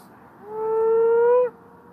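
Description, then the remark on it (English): A single drawn-out call of the moaning frog, a species that calls commonly around the middle of Perth, about a second long: a low, steady, slightly rising hum-like tone with rich overtones that cuts off abruptly, heard on its own without talking. “So that's the moaning frog, and it calls quite commonly around the middle of Perth.”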